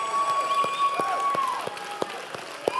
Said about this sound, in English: We just begin to praise Him with a voice of triumph, with a shout.